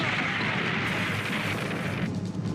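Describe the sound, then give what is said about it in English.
A steady, loud rumbling roar of rocks tumbling from a crumbling mountain, with deep low thuds running through a dense wash of grinding noise that shifts slightly near the end. “Bravestar knocks the horse out with a punch, then catches both him and the gun as rocks fall on them.”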